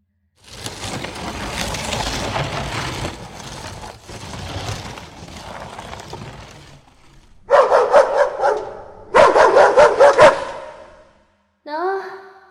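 After several seconds of rough, noisy scuffling, a dog breaks into two loud bursts of rapid barking, followed by a brief high yelp at the end.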